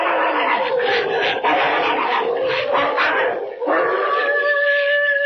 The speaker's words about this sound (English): What's that? Oh, it's them dogs. They're fighting again. Lend a hand now, quick, before they chew each other to bits.